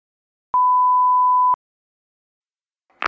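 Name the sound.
answering machine beep tone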